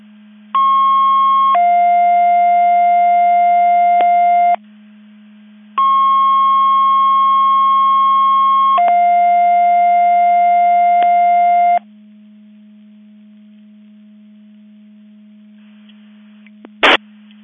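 Radio dispatch alerting tones for a Mavis Division 5 Mutual Aid Box Alarm alerting receiver test in McHenry County at 10:03 hours sound twice, each a short steady higher tone sliding into a longer lower one, loud and clear over a constant low hum, followed by a brief click.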